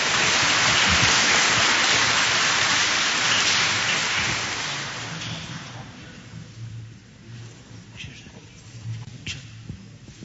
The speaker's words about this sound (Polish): Kochani, były brawa jedne.